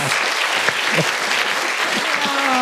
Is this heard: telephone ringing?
no